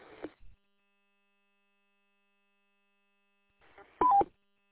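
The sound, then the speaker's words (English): A brief CB radio transmission burst ends in a quick two-note roger beep, a higher tone dropping to a lower one, crisp and fairly loud, after a long stretch of near-silence. “Turn that Roger beep off.”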